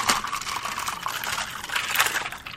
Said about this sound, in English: Okay. Hang on. We got to do the Foley. This is the invisible cup of iced tea, because you'll hear ice.